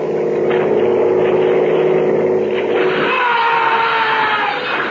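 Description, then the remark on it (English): A motorboat engine drones loudly and continuously, its tone shifting partway through as the boat draws close, with no voices over it. “I waited till they got close, then threw the thermos, got the driver.”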